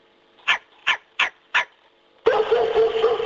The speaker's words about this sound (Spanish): Bueno, son dos perritos. Vale, ahora... Yo creo que no, ¿eh? No. Yo creo que no. O sea, aquí hay un perrito y un perrazo. Tienes razón. ¿Eh? Exactamente. ¿El primero era un perrito y el segundo era un perrazo?